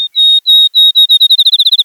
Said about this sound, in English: Then, a field sparrow outsings them all.